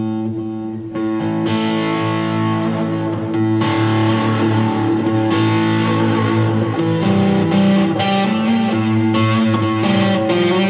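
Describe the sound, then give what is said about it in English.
A sustained, slightly distorted electric instrument plays through a straight delay effect that has been sped up, notes repeating and overlapping in quick echoes that blur into a dense, continuous wash. No voices are heard. “So this is just straight delay. I'll speed it up a little.”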